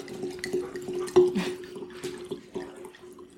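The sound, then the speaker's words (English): Liquid pours heavily into a container, a steady gurgling stream broken by splashy bursts and drips over a few seconds, with no voices. “That was a heavy pour there.”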